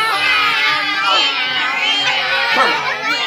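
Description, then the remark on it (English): A group of people, mostly children, yowl and wail together in imitation of a caterwauling cat, a dense, continuous chorus of high, wavering voices with pitch swoops throughout. “Have you ever heard a cat caterwaul at night?”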